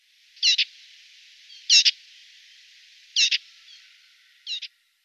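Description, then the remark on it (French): A Eurasian blackcap, a 14 cm bird, sings in four short, evenly spaced bursts, each a quick pair of bright, high notes, clear, with a faint steady hiss between phrases and no talking. “Fauvette à tête noire, 14 cm.”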